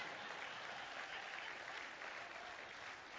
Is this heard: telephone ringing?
no